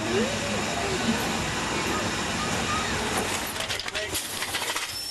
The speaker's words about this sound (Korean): 이후 증기기관차는 역사 속으로 사라졌는데요. 하지만 여전히 이 증기기차를 타볼 수 있는 곳이 있다고 합니다.